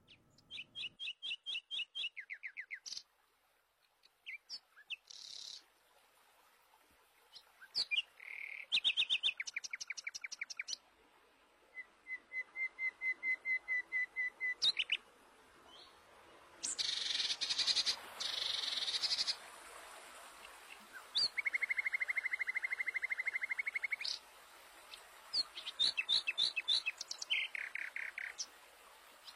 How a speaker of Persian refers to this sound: بله، بسیار زیبا صدای پرنده برامو پخش کرد حسین معصومی